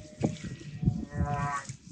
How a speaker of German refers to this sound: Vielleicht spiele ich den Ton davon mal im Hintergrund ab. Da hören wir auch, dass der Wal Geräusche macht.